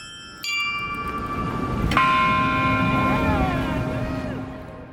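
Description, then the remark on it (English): A very large ground-level bell, rung with a lever, is struck twice, about a second and a half apart, each blow ringing out with a rich, long-sustaining hum that lingers over steady background noise. “And on the ground level is a very large bell with a kind of lever.”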